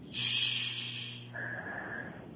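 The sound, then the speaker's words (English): A single slow, deep inhale through the nose during a breathing exercise, airy, lasting about a second over a low steady hum, followed by a faint sustained whistly tone. No one speaks. “And I'm taking a deep breath in and slowly breathing out through my mouth.”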